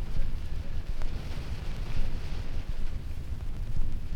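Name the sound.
wind rustling through leaves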